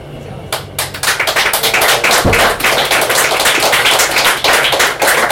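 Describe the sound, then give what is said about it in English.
A crowd breaks into sustained applause, many hands clapping in a dense, steady patter that starts abruptly and stays loud throughout, with a brief low thump partway through. “You don't have to clap every time.”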